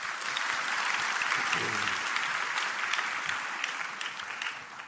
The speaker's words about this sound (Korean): 예. 박수 한번 합시다.